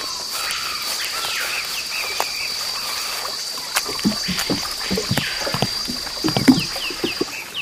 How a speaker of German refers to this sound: Dann können wir ja los und mit meinem Einbaumboot zum Dorf fahren.